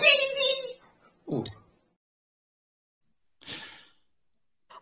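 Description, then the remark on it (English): A man with long hair and a beard imitates a kitten: one drawn-out, tonal meow, then a short low grunt and, after a pause, a breathy airy sound. Silence fills the gaps. “He's got long hair and a beard, but he also makes these funny kitten and then screaming and shouting noises and kind of just squealing.”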